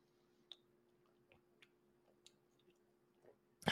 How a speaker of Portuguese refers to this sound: vamos dar um golinho de Red Bull. Não patrocina isso aqui, tá? Eu só tô dando um gole de Red Bull pra manter a energia.